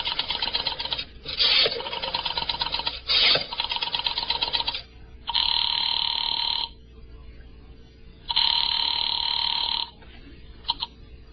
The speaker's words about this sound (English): And Mrs. Morris, knowing how foolish it was, knowing it, went to the phone and dialed.